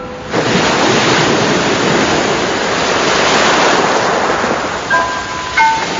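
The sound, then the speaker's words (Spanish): A steady, hollow roar of sea waves as if heard inside a conch shell, loud and unbroken throughout, with a couple of faint high tones near the end and no voices. “El mar, dentro de la caracola.”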